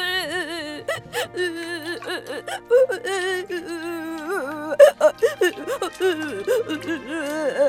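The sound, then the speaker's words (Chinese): Clear sad crying of a little panda in the bathroom: a wavering, high-pitched whimpering voice sobs and whines continuously for several seconds in broken, uneven bursts, with a faint low hum underneath. “小熊猫伤心地哭了起来。小布丁听到小熊猫的哭声，跑到浴室，哄起了小熊猫。”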